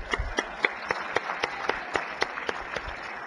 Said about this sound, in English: Let's give the senator a round of applause.